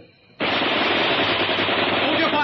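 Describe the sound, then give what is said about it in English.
A sustained burst of Bren machine-gun fire erupts after a brief quiet moment, a loud, dense, rapid rattle that continues steadily for about two seconds. “I want them to wonder whether they've heard a machine gun or not.”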